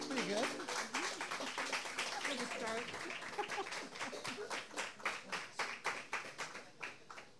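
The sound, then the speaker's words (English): An audience breaks into applause after a song, a dense wash of clapping with voices and cheers mixed in at first, thinning toward the end into more distinct, evenly spaced claps. “keep it going. Nice round of applause.”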